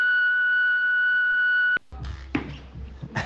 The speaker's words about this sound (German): Na, egal, dann quatsch du nach dem Piepton, wa?